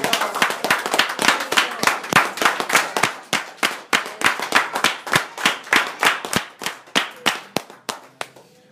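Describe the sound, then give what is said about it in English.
An audience claps hands together in a steady, fairly rhythmic burst of sharp, loud claps lasting several seconds, with no talking over it, gradually thinning out toward the end. “Give him another hand clap.”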